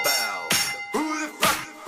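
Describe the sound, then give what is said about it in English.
A bell rings in quick repeated strikes, about four bright metallic hits in under two seconds, each leaving a ringing tone that overlaps the next. Fairly loud, with no voices. “The bell.”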